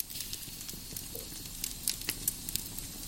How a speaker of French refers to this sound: À l'exception du crépitement des bûches, le silence est total.